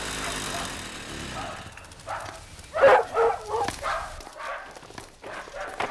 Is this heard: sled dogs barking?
yes